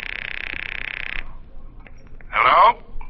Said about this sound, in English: Now take the phone. Tell him. It's ringing. Take it.